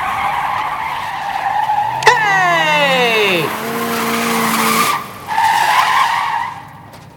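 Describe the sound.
A car engine roars as the driver floors the gas pedal, and the tires squeal sharply. The shrill whine glides downward, then holds steady for a couple of seconds before cutting off; a voice shouts once over the noise.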